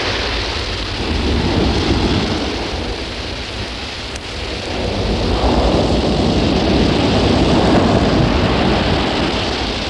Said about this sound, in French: À pleuvoir, une pluie fine et froide avec du vent.